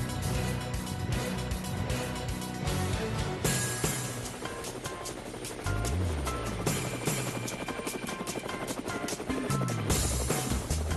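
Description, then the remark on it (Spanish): Helicopter rotor blades chop steadily and loudly for the whole stretch, a dense rhythmic thumping that swells and shifts slightly in pitch as the helicopters approach and pass by. “ahí vienen los helicópteros, ahí están las aspas del helicóptero”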